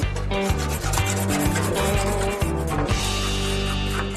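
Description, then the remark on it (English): Paint being sprayed off with a power washer and scraped: a loud, steady hissing rush over a droning motor hum that pulses in short low bursts, with a continuous rasping texture and no voices. “Spraying and scraping.”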